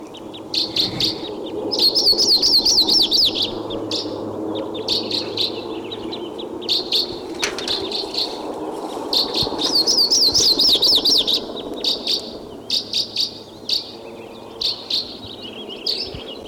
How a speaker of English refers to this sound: Now, a minute later, 716, and I hear a Type 2 crossbill coming in.